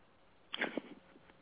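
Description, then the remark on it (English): A brief cough to clear a tickle in the throat, two quick rough bursts close together, fairly soft, with no talking around it. “Oh, my gosh, I got a little tickle in my throat. Excuse me.”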